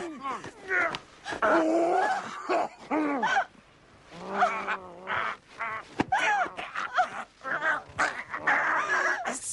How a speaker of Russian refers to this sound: Собака!